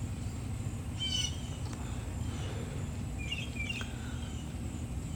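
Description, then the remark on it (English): A bird in a tree at dawn calls a few times in short, bright chirps, once early and again in a quick cluster later, set against a steady low outdoor hum with no one talking. “I'm not gonna watch a video from a guy smoking a cigarette on his patio at dawn with a bird squawking in a tree.”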